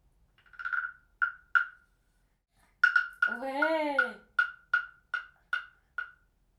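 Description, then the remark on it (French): A wooden frog guiro is played: a few hollow knocks, then a rasping croak as the stick scrapes its ridged back, followed by a steady run of single wooden taps, no voices. “On n'a pas fait la grenouille Guiraud.”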